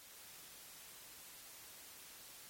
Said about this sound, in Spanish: El ruido blanco es una señal aleatoria en la que todas las frecuencias tienen la misma intensidad. Ninguna es más alta que la otra, ninguna sobresale.